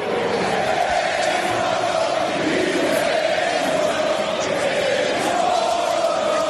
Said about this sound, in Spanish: Bueno, seguramente que lo que te suene sea el caso Vinicius. Acaba de escuchar cómo le gritaban al jugador del Madrid, cómo le llamaban mono.